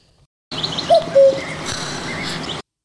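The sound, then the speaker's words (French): A cuckoo calls once, two clear falling notes in quick succession, set against a soft outdoor backdrop of faint chirping birds, with no voices present. “Peut-être que le coucou sait d'où vient l'œuf.”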